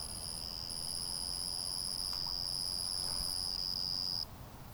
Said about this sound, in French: l'animal intéressant, ce petit grillon, tout petit grillon qui se camoufle sous les galets. Voilà.